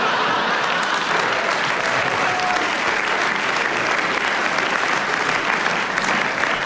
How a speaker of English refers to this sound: As I didn't hear what you said, I don't know why the audience are clapping.